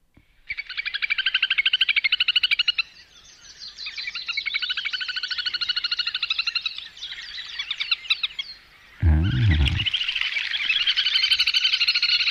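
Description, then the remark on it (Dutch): A little grebe (dodaars), the smallest grebe species, gives its loud, whinnying breeding-season call: a long, rapid, high-pitched trill that runs almost unbroken for about twelve seconds, briefly dipping in volume midway, with a short low thump near the end. “Ja, in broedtijd luide hinnikende roep.”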